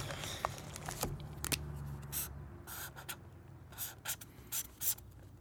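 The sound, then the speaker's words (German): A thick, large red felt-tip marker squeaks and scratches across the paper of a program booklet in a series of short, uneven strokes, fairly quiet, with the strokes quickening toward the end and no one talking. “Und in den Kochbüchern liegt ein dicker, grosser, roter Filzstift.”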